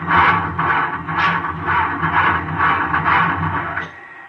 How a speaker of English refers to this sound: What's wrong? I can't start the engine. Here, let me try.